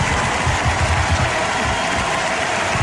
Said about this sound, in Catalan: Doncs bé, mentre que ahir el president Carles Puigdemont, des de Brussel·les, arrencava una enorme ovació i s'enduia un bany de masses... Carles Puigdemont!